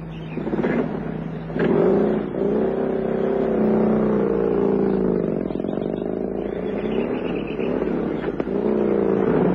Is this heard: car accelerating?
yes